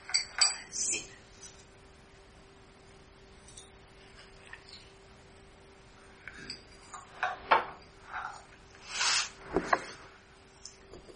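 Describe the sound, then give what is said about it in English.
Someone fetches a glass of water: scattered sharp clinks of glass and dishware, light clatter and handling noises, and a brief rushing burst that could be water pouring, with no talking. “I'm going to grab a glass of water.”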